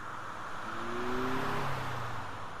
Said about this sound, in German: Das wird alles dann modelliert mit Sinustönen, mit Rauschen, entsprechend gefiltert und dann erzeugt man wieder einen sehr echten Eindruck, sehr authentischen Eindruck einer Vorbeifahrt.